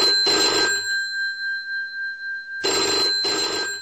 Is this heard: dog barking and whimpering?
no